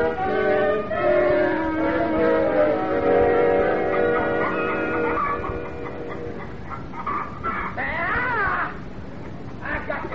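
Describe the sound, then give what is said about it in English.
A loud flurry of chickens squawking and cackling over one another in a chicken yard, agitated and continuous, with sharp rising and falling cries near the end. “Who's in the chicken yard?”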